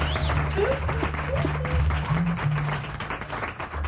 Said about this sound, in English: His name is …, and he played and sang. You know, let's give him a nice round of applause, huh?